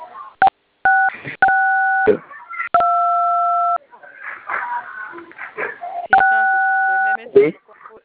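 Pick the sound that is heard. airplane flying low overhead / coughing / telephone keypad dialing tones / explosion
telephone keypad dialing tones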